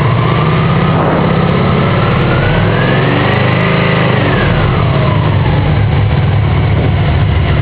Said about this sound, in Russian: Мой мотоцикл заработал с первого раза. Спасибо тебе, зайка, что ты такая надежная и хорошая. Очень хороший мотоцикл. Кто не слышал звук магны, пожалуйста, вот он.